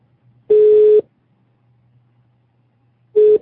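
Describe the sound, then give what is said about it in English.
A phone line tone sounds as a call goes through to bring another person into the conversation: a steady electronic burst lasting about half a second, a long pause, then a second shorter burst, over a faint low hum. “Are you hearing me ringing in now?”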